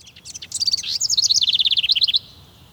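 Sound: birds chirping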